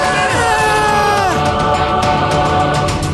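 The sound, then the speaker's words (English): A loud, drawn-out human scream with a pitch that wavers and slides downward, running into further excited shouting and whooping from more than one voice. “Why'd I scream?”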